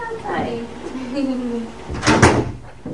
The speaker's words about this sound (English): Oh, I should close that door. Because otherwise your car might go out.